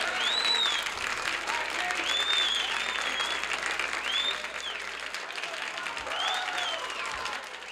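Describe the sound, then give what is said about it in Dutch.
A large live audience applauds after a song performance, a dense wash of clapping that stays loud throughout, with a few whoops and whistles rising above it before easing slightly toward the end. “Als je dat zo hoort, met zo weinig muzikanten, zo puur opgenomen, met zoveel publiek.”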